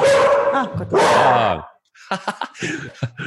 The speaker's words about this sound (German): Also die Hunde wollen auch alle sagen, heute zu dritt, deswegen besonders laut. Oh wow, du hast... Darf ich vorstellen, es gibt heute Morgen Käthe, Miller und Bibi an meiner Seite.